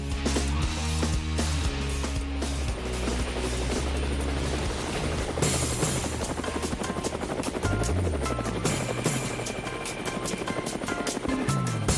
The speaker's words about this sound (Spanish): Bueno, amigos de Cuba, ahí están las aspas del helicóptero.